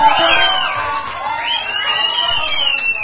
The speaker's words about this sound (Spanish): por favor, échale un ruido, un aplauso.